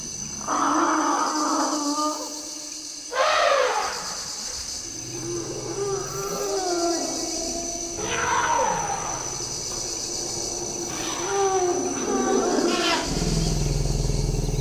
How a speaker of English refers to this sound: These are great forest elephants. They're really remarkable animals.